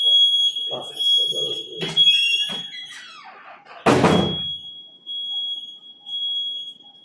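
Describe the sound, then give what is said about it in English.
A steady high-pitched electronic alarm tone from an alarm system sounds continuously throughout, with a loud thud like a door banging partway through and a voice talking faintly in the background. “Now when they bring Yaakov, well, it's our alarm system.”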